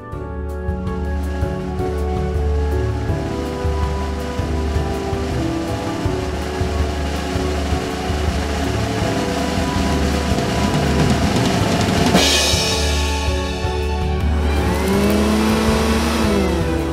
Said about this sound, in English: This month's Hoover brought to you by Electrolux 4000.